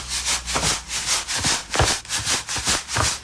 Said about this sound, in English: I'm eating strawberries with a little sugar on top. So sweet, so soft.